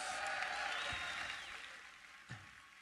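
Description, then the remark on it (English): An audience claps steadily in a dense, crackling wash of applause that holds for a few seconds and gradually tapers off, with no one speaking over it. “Let's give yourself a round of applause for that.”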